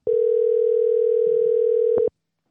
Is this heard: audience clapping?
no